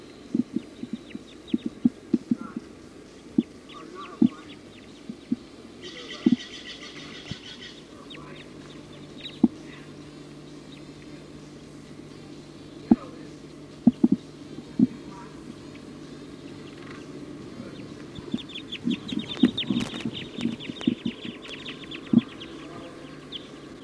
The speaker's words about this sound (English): Type 2 birds just came in, pointing here at 279. Yeah. It's a recording. The flock is perched in the top of a pine tree here. Way at the top, I don't see any birds coming down at all. They're quiet. Recording the flock is calling now.